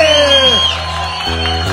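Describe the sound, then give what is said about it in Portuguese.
A live music show's audience cheers and applauds after the performer asks them to make noise, in a steady, loud wash of sound that opens with a high whoop sliding downward, while scattered shouting voices blend into the din. “Quem gostou faz barulho aí.”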